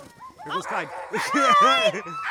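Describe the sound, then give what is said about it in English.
A team of 10 harnessed sled dogs on an expedition barks and yelps excitedly, their overlapping high-pitched calls running continuously and loudly, rising and falling in quick, eager bursts. “Does it sound like they're going to sit and wait for you, right? So hang on to the sled.”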